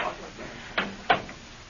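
An office door swings shut, making two quick, sharp clunks a moment apart, the latch catching on the second, over a quiet, low hum with no talking.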